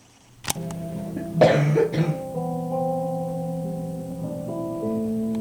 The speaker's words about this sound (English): The kind that rattles so deep in your chest that you were sure it meant you'd failed your body in other ways. Listen to the cough. Rewind the tape again and again.